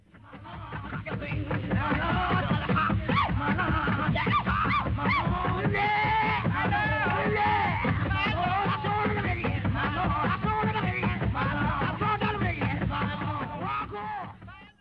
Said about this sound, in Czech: Takže budeme teď poslouchat několik klipů z období 1900 do roku 1940, aby jsme si ukázali průběh toho, co se dělo. Tento první klip bude v podstatě jen syrová černošská lidová hudba.